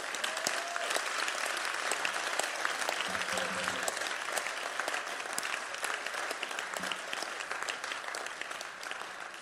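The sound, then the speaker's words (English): Audience applause from a church audience fills the whole stretch. It is a dense, steady patter of many hands clapping at an even, moderate loudness with no pauses, and a few faint voices mixed in underneath. “Your clapping is weak.”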